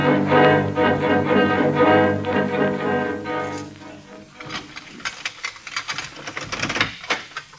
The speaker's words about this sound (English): Get to work on the typewriter.